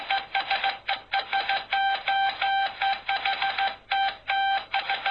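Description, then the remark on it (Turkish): Rapid bursts of a steady electronic tone switch on and off in short and slightly longer pulses: Morse code signals of the kind used on telegraphs, with brief gaps between groups and no voices. “Bu iletişimin bir yöntemi telgraflarda kullanılan ve kısa sinyallerden oluşan Morse alfabesidir.”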